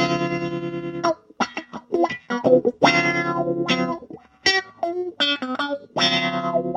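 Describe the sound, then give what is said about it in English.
An electric guitar plays through wah-wah and tremolo effects pedals, alternating long sustained notes with quick, choppy bursts whose tone sweeps and pulses. It plays alone, with no talking. “This little bit I'm going to play here will engage all four pedals that we looked at today. I'm going to start with some wah-wah and some tremolo.”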